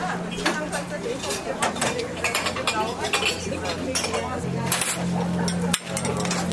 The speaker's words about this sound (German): Das Klappern der Tassen und Teller an den vielen Cafés an der Uferpromenade. Und es ist heute hier richtig gut besucht.